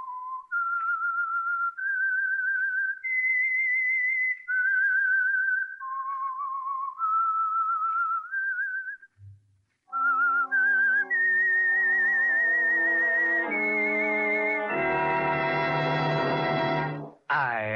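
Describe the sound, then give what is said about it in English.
A lone whistler carries an eerie, wavering melody for several seconds, then after a brief pause an orchestra swells in with rising chords that grow loud and full: the whistled theme tune of the Signal Oil Program, The Whistler. “That whistle is your signal for the Signal Oil Program, The Whistler.”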